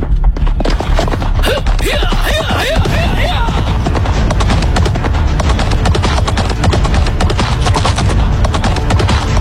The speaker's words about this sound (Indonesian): Ki Berkah Dalam segera melompat ke halaman samping menuju kandang kuda. Dalam waktu sebentar, dia sudah menuntun seekor kuda dan segera mencemplaknya.